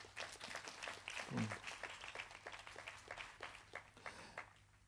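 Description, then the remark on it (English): A crowd claps together in sustained applause as a clap offering to the Lord Jesus, many hands producing dense, steady rattling claps at moderate loudness for several seconds, with a faint low hum underneath. “I'll give the Lord Jesus a super clap offering.”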